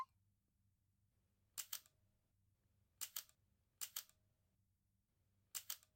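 camera shutter clicking

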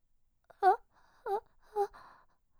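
woman crying

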